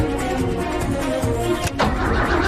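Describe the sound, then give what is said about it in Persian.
A spaceship engine is started up for heading off to space: a loud, steady mechanical rumble with a brief sharp crack partway through, after which the roar swells slightly and keeps running. “موتور رو روشن کن.”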